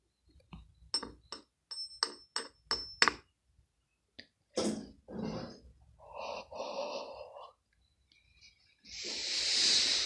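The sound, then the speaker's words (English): For ASMR, an even smaller razor blade taps against the tip of a screwdriver about eight times in quick, even succession, each click leaving a faint high metallic ring, followed by soft breathy hissing noises. “An even smaller razor blade knocking against the tip of a screwdriver.”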